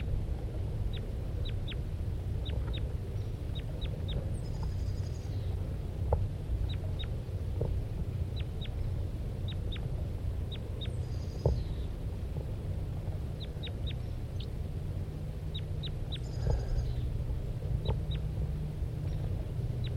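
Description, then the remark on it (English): A male bird gives repeated short, sharp calls in quick clusters over a steady low outdoor rumble, with a few higher squeaky notes mixed in; no one speaks. “Start recording the male while the female's now on the ground.”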